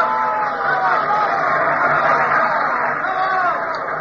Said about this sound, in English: It occurred on a lovely summer evening in Atlantic City in 1949. There were many kinds of applause, but this applause had a special meaning.